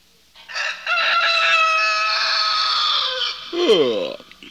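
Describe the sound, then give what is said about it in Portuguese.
A rooster on a small farm crows loudly early in the morning, one long sustained cock-a-doodle-doo that ends in a falling, strained note, with no one speaking. “Assim que o galo cantava, Franz e Frida se levantavam para mais um dia de trabalho.”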